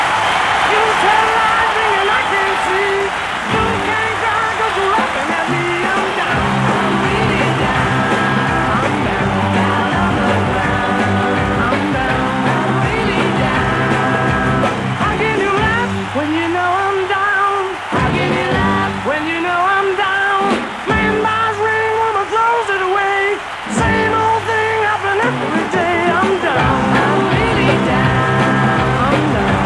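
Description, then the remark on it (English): A huge live concert crowd roars with cheering and applause, a dense, continuous wall of noise that stays loud throughout, with high-pitched voices rising and falling above the din. “It was the biggest crowd we ever played to.”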